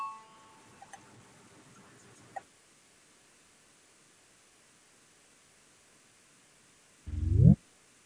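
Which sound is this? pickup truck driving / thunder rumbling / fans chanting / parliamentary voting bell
parliamentary voting bell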